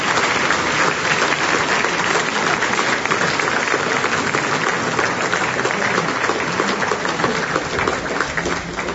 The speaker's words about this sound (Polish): Brawa, proszę Państwa, dla wszystkich absolwentów.